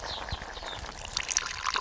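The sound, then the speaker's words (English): Water pours into a pot in a steady splashing trickle that brightens toward the end, with no voices present; the water is for morning tea and is boiled in the pot over a fire of twigs. “throws a few twigs onto the fire and boils water in a pot.”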